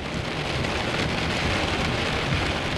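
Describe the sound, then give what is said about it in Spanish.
Heavy rain from a violent storm that began after midnight pours down in a steady, dense hiss throughout, loud, with a low thunder-like rumble churning underneath; no voices. “Probablemente fue después de medianoche cuando comenzó la tormenta. La violenta tormenta que puso fin a todas las tormentas.”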